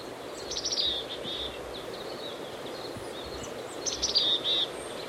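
A chickadee gives two short bursts of high, thin calls, a few seconds apart, over a steady hiss of wind or rustling foliage, while foraging in ponderosa pine branches on a steep hillside by side road E24 on a windy day, with a stream in the background. No one speaks.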